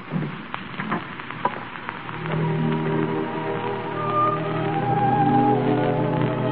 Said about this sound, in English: It's raining. It's raining awfully hard.